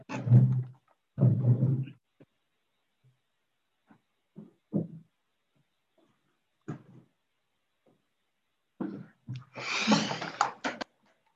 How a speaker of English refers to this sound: Sorry, my cat likes to walk by the mic. I'm going to put her outside this room.